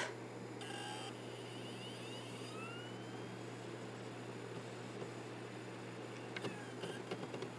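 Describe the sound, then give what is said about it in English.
A CD player tray slides out slowly: a steady mechanical motor hum with a faint rising whine, ending in a few small clicks and clunks. No one speaks. “Yeah, it comes out really slowly. I'll do it again because I think that.”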